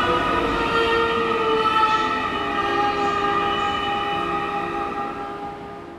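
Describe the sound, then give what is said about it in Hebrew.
A steady rumbling drone of a moving train, with sustained tonal whines layered over the continuous rolling noise, loud, heard from inside a train carriage; no one speaks. “חוץ מהמיזוג המצוין והעובדה שהשתלטת על קרון שלם של רכבת לכל הרוחות, מה אתה עושה”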